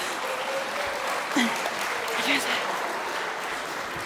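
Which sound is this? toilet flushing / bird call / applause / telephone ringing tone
applause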